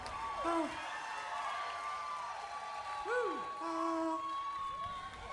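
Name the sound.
concert crowd cheering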